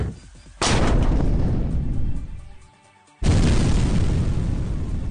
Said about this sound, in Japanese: 魔法でも武器でも爆発が一番最高だわ。